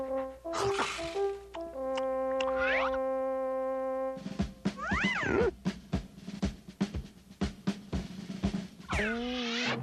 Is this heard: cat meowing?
yes